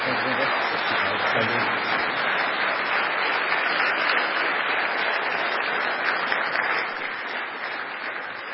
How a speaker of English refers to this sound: Let's have a round of applause for Linvoy Thomas.